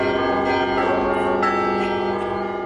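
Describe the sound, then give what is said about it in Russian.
Church bells ring loudly and continuously, their overlapping metallic tones sustaining and blending into a rich, resonant wash with no pauses and no voices, as workers raise a new cross onto a church dome after a prayer service in the Penza diocese, Russia. “По окончании молебна под колокольный звон рабочие водрузили крест на купол.”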